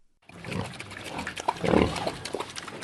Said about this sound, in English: It's feeding time for the big pink pigs in farmer Zhu Shangzun's pen.